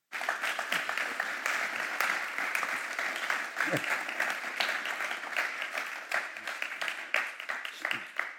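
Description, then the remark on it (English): An audience bursts into sustained applause for a church member who prepares the leaders and worship teams, a dense wash of many hands clapping steadily for several seconds at an even, fairly loud level, with a few scattered louder claps standing out. “Let's give her a clap.”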